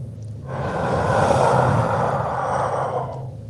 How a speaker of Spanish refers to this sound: Sentí su respiración al lado mío. Mi oreja se puso fría.